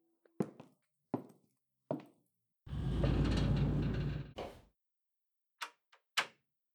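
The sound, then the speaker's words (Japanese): A door being locked with a key: sharp metallic clicks and knocks, then a longer rumbling slide of about a second and a half, followed by a few final crisp clicks. No one speaks. “じゃあ、鍵閉めるね。”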